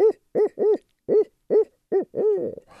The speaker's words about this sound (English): So what you may have is you may have had a barred owl, and they're the ones that go, "Who cooks for you?"